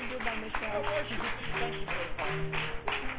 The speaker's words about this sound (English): Let's give the Lord a hand clap of worship.